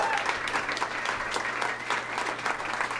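An audience applauds to welcome a guest, a dense, continuous patter of many hands at a fairly even loudness throughout, with a faint hum underneath and no clear voices.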